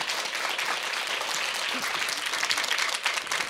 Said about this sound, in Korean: 멋진 무대 기대가 됩니다. 네. 여러분 큰 박수로 다음 무대를 맞이하겠습니다.